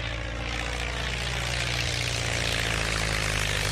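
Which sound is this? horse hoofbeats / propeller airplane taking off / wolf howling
propeller airplane taking off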